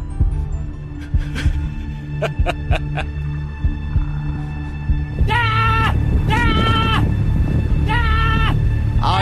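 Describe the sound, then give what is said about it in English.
A baby goat bleats three times in quick succession, loud and quavering, after several seconds of low hum and scattered soft clicks. “You're both right. That is, in fact, a baby goat.”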